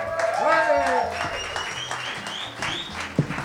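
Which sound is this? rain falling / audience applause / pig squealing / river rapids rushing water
audience applause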